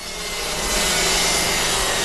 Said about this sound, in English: Sounds more like a lumberyard, doesn't it? But this is the boatyard.